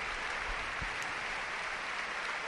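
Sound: stadium crowd applauding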